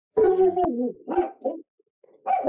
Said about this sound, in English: They heard you and they started barking. They said, amen.